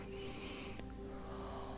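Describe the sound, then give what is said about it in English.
A long, slow exhale, a soft breathy rush of air that holds steady for about two seconds, over a faint low hum. “And then you're exhaling as I'm”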